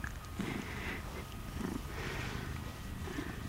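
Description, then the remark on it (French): A steady, continuous cat-like purring from a toy purr box that vibrates as it purrs, low and rumbling with soft rhythmic pulses roughly every second, even in loudness throughout. “C'est une boîte à ronron. À chaque qui ronronne, ça vibre.”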